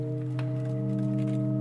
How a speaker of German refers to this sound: Ihr Klang vermischt sich mit dem der anderen 5 Pfeifen.